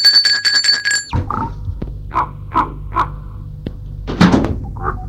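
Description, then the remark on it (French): A bright doorbell at a gate rings in a rapid rattling burst for about a second in the late afternoon, then stops; afterwards several harsh crow-like caws and a couple of thumps follow outdoors. “En fin d'après-midi, on a sonné à la porte du portail.”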